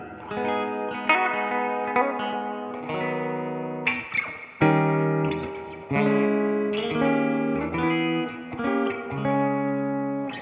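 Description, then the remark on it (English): Electric guitar played through a reverb pedal strums sustained chords drenched in heavy reverb, each change blooming into a long, washy tail. It plays loud, alone with no voices, shifting through several chords over about ten seconds. “I need like extra stupid reverb, and I'll kick that one on and do like a, you know, that's the extra.”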